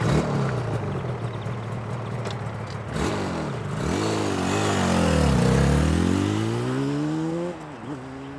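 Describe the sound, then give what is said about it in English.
A motorbike engine in a motorbike race drones steadily, then revs up and down through several gear changes, its pitch sweeping higher before dropping, loud with no voices. “My cousin can ride a motorbike. He rides in motorbike races.”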